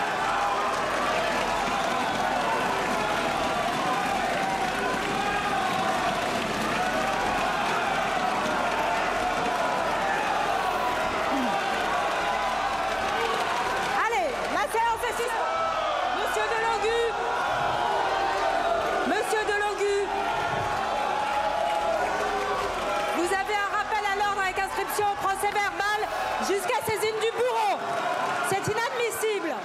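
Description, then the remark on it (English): A chaotic crowd in parliament screams and shouts over one another, many voices overlapping in a loud, continuous roar with sharper yells breaking through, sustained for the whole stretch; the uproar is over a man holding up a Palestinian flag. “Most of that screaming, by the way, was, did you see that guy who was holding up the Palestinian flag?”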